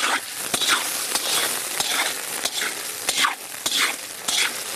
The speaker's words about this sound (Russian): Картошку надо постоянно отслеживать, масло там у нас кипит.